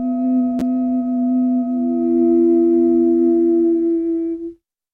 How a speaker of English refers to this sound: What am I doing? Vowels with stable, consistent tones.